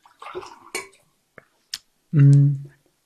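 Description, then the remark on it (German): Water is poured into glasses, with a few light clinks and taps of glassware first, then a short, full-sounding pour lasting about half a second. “Jetzt gebe ich mal ein bisschen Wasser noch dazu.”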